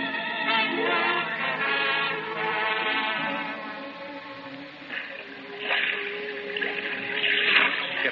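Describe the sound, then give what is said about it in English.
Churning, swirling sea water surges continuously and loudly, eddying furiously after a ship strikes a reef, with gurgling, bubbling textures that swell and ebb over several seconds, no voices present. “The sea was eddying furiously around”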